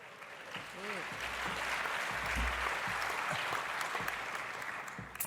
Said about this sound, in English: Applause for you.